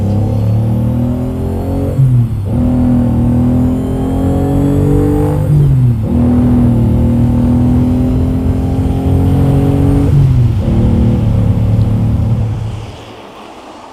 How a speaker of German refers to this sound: Schnell, wir nehmen die Verfolgung auf. Wenn wir hier ein Autorennen veranstalten...